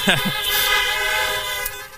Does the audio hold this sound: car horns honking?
yes